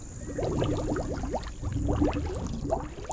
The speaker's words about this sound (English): We feel bad and a little scared, so we put her back in the water where she happily blows bubbles.